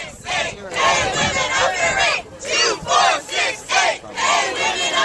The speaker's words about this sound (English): A big crowd of women outside the Supreme Court yesterday as the oral arguments took place in Dukes versus Walmart.